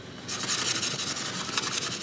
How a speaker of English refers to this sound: Kenneth Burnett and Maggie Rivera are sanding a casket, readying it for a pink camouflage paint job.